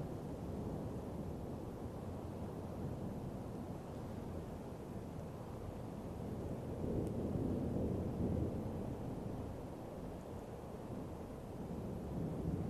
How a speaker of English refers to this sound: Hearing the roar of the thunder, the music of the rain.